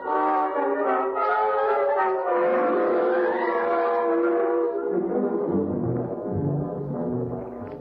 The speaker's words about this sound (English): That siren means they're searching for me.